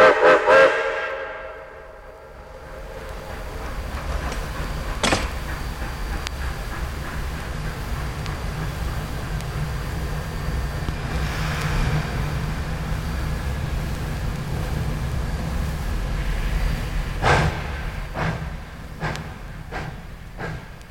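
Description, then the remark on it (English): A recording of a train: a whistle blows at the start, then the train rolls past with a steady, loud low rumble and occasional sharp metallic clanks from the wheels and cars. No one speaks. “You know, I was telling that story, and I had a little tab in my hand and a little nut cup and a cheap hamburger, and I really felt like I was riding the train, but those days are gone by.”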